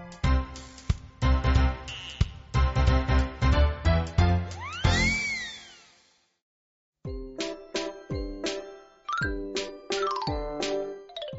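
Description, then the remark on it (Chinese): A school class bell signalling the start of class plays a bright, chiming melody through a loudspeaker, pausing briefly before the tune continues. The tones ring clearly with no voices. “旁边几位同学也跟着凑热闹跑来登记，直到上课钟声响起，大家才一哄而散，各自回到座位。”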